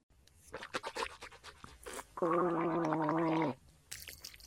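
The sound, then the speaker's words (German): In a bathroom, after brushing teeth, someone rinses their mouth with water, swishing it around with wet, irregular sloshing sounds, then gargles loudly for about a second with a steady, buzzing, low-pitched rattle before stopping. “Nein, die spüle ich nur mit Wasser aus.”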